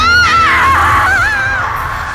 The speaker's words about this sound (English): Her scream was mental as much as sonic, and the force of it nearly ruptured my eardrums from the inside.